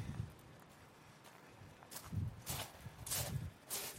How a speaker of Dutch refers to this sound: Je hoort, ik loop langs zee.